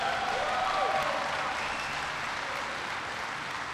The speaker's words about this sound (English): I want to thank Quentin for the terrific introduction, for sharing his story. Give Quentin a big round of applause.